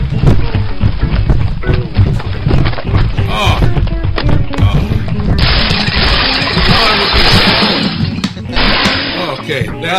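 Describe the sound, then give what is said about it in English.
Heavy feet stomp out a dance, an irregular run of loud, dull thuds and thumps, one after another, over a dense, busy wash of background noise. “And I hear it's kind of, you just kind of stomp around a lot.”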